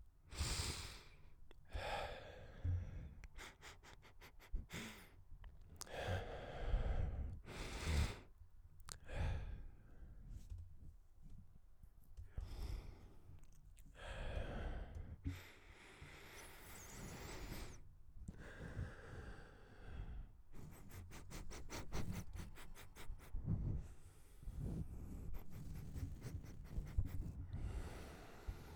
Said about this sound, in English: Some sniffs too.